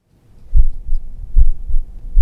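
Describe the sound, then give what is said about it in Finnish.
A human heartbeat thumps steadily during a medical specialist's examination, each beat a low double thud of the heart valves, clear with no voices, in an even rhythm; the heart sounds are normal, the valve sounds of the right strength and character, and the pulse very regular. “Joo, sinun sydänäänet ovat ihan normaaleita sillä tavalla, että ne läppien äänet ovat voimakkuudeltaan ja luonteeltaan oikeanlaisia ja pulssi on hyvin säännöllinen”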